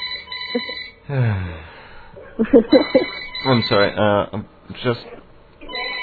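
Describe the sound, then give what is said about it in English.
A telephone rings steadily in a radio studio, its bright electronic trill repeating through the whole stretch while a man talks over it and briefly apologizes. “Oh dear, phone's going off in the studio.”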